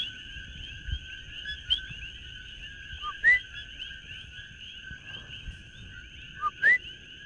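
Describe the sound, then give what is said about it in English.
At nightfall, a coqui frog hiding in an octopus tree in a forest on Windward Oahu, Waimanalo, gives two sharp, rising two-note chirps a few seconds apart over a steady high-pitched chorus of night insects and frogs, while a person tries to coax it out of its hiding spot. No one speaks. “is trying to coax a koki frog out from its hiding spot.”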